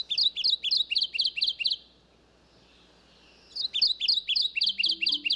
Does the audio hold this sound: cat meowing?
no